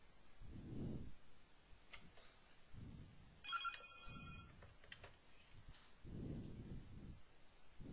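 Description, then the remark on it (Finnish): A phone's electronic ringtone chirps briefly midway during a lecture demonstration, a short bright melodic burst, set against quiet low rumbling thumps and faint clicks, with no one talking. “Iski oikein luentodemo-efekti, puhelin soi.”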